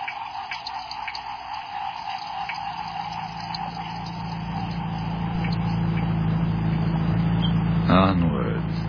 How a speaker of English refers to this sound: Onwards into the dark heart of the jungle. Not much further. I feel like I've been on this boat all my life.